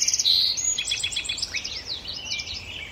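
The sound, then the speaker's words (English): A dawn chorus of song sparrows, common yellowthroats, American robins and red-winged blackbirds in Tektaxan Marsh on Saturna Island, British Columbia, several birds singing at once in overlapping high trills and chirps, continuous, with a faint background hiss and no talking. “The marsh is now alive with the splashing of Virginia rails and dawn chorus of the song sparrows, common yellowthroats, American robins, and red-winged blackbirds.”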